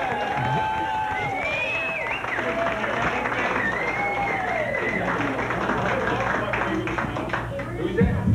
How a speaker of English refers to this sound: Give him a nice round of hoot and holler and applause.